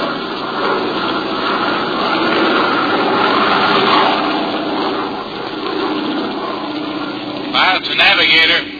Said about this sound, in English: In 15 seconds, a bomber high above the Earth flies a mile through thin, still air, hostile with flak and enemy planes.